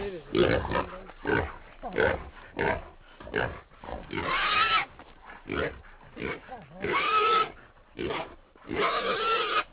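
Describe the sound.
A wild pig, caught during a hunt with dogs gripping its cheeks and ears with their teeth, squeals and grunts in repeated loud bursts. The shrill, harsh cries come in uneven clusters with short pauses between them, and some indistinct voices are mixed in.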